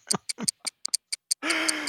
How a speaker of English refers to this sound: Speaking of hands, I think I see the hands of the doom clock over there that are ticking very loudly.